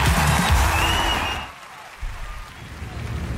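A recorded crowd at the Google I/O 2023 developer conference keynote at Shoreline claps and cheers in a dense, loud burst for about a second and a half, then drops away to a quieter, muffled murmur.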